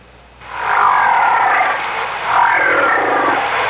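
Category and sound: animal, whale vocalization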